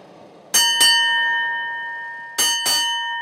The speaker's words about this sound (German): Die Schiffsglocke wird viermal geschlagen.